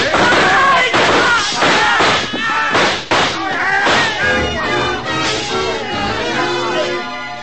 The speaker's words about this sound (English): The shooting went on for about 5 seconds, and when the glass started to come down behind us, we covered up.